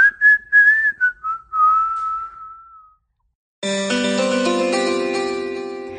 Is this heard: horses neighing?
no